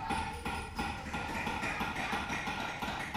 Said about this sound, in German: Bei der Klosterkirche Königsfelden stehen 8 Baracken, nachgebaute Legionärsunterkünfte. Schon von Weitem ist lautes Klopfen zu vernehmen.